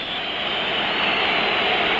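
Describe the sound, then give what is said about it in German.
A steady, dense roar of a football stadium crowd at an emotional match in the GDR, a continuous wash of cheering and noise that holds at a loud, even level with no clear individual voices. “Ja, hört mal diese Kulisse.”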